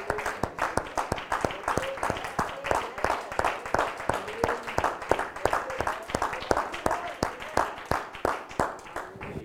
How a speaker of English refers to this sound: It's a little hand clap of praise.